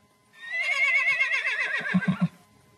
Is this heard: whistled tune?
no